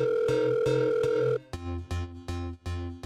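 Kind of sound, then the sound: signal or alarm, telephone call being dialed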